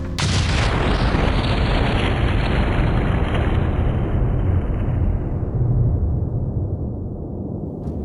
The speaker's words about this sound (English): The Lusitania, one of the largest passenger liners in the world, is en route from New York to Liverpool when it is struck by a torpedo from a German U-boat.